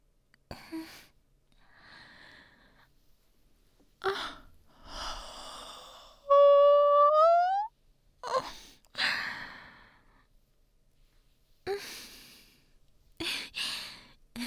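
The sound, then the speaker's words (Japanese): A big drawn-out yawn rises into a loud voiced stretch for about a second, surrounded by several soft breathy exhales and sighs, with no talking. “大きなあくび。”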